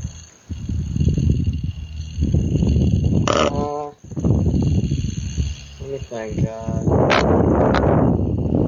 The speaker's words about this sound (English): Well, I'm going to go ahead and give a throw here. Now, interesting fact about this yo-yo up front. I stole this yo-yo from Josh Jessen's prize bag from Illinois State. So here we go. Okay. Can you hear that?